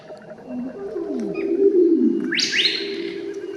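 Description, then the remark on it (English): A male lyrebird in the Kapiti Valley sings his bee song, part of his Dancing Mound songs: a low droning hum with sliding tones, then a bright rising whistle-like sweep near the end, fairly loud with no voices. “It's a part of the Dancing Mound songs of a male. It's what Anastasia Diel called a bee song.”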